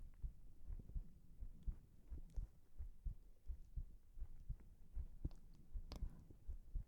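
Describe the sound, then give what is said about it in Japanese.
A person's muffled heartbeat thumps steadily in low, soft pulses, repeating at a calm resting pace against a faint background hum, with no voices present. “私の心臓の音、どうかな？落ち着ける？”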